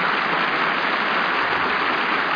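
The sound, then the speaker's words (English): A dense, steady wave of audience applause, many hands clapping together at an even, sustained loudness throughout, with no voices heard over it. “But there are other sounds familiar to the actor, and this is the one he loves best.”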